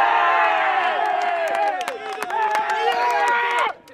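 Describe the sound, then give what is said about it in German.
A group of football players shouts and cheers together in loud, excited celebration after Slovakia beats Poland 4:1, overlapping yells rising and falling for a few seconds before cutting off abruptly. “4:1 gewinnt die Slowakei am Ende gegen Polen. Nach Jubel und Gruppenfoto geht es gemeinsam noch zu einer Stadtführung durch Leipzig.”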